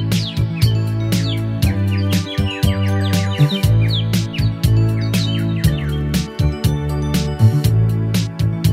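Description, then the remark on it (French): An upbeat French pop instrumental plays loudly, with a steady percussive beat, sustained bass and chords, and bright chirping bird-like sounds woven through. No one sings or speaks. “de faire jouer « … » de …”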